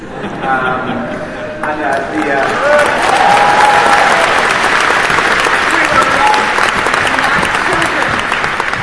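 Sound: audience applauding and cheering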